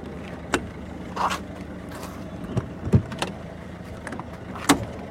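Several irregular thumps and knocks, with rustling and scraping in between, as suitcases are loaded into a car for a road trip to Paris, over a low, steady background hum.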